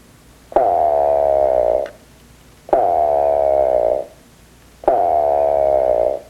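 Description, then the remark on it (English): A single bird gives three loud, nasal, grunting calls, each a drawn-out 'wah' about a second long with a buzzy, harmonic tone, spaced evenly with short pauses between. No talking. “Now, their call is very diagnostic, very unique, and it kind of sounds like a crow off in the distance, kind of nasal grunts like wah, wah. And so some folks have described it as similar to a young crow.”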